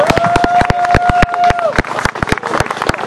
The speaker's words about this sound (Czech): Jo, samozřejmě taky bych poděkoval, to se nesmí zapomenout, představitelům městské části Brno, nevím kolik, kteří nám tuto akci povolili a kteří jsou tady vlevo přítomní. Prosím o potlesk.